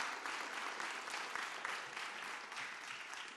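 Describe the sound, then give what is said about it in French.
Steady applause from an audience, a dense wash of many hands clapping at once, sustained at an even level throughout with no voices standing out. “Ouais, on peut applaudir.”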